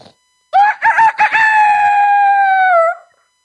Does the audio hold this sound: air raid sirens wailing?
no